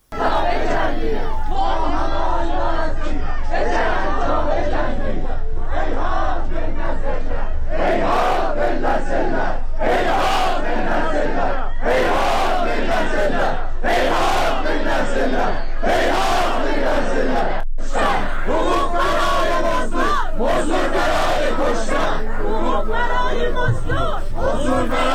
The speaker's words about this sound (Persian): در تبریز شمار گسترده ای از مردم در مراسم خاکسپاری آیلار حقی، دختر جوانی که پریروز جانباخت، در آرامستان وادی رحمت برگزار گشت.